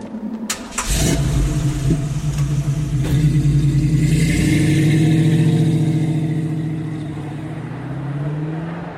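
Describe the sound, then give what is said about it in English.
A car engine cranks and catches, then revs up with a rising, throaty drone that swells and settles as the vehicle drives off, loud, with no voices. “You have a car.”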